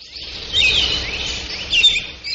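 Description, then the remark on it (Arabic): Many small ornamental birds chirp and twitter at once in a dense, continuous chorus of high, bright calls, steady, with a few sharper chirps standing out, in a shop selling ornamental birds and parrots in Baghdad, Iraq. No one speaks. “البغداديون يقبلون على تربية أنواع من الطيور خاصة الببغاء”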